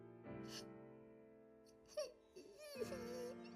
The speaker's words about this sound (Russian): не плачь. Ты не сделала ничего плохого.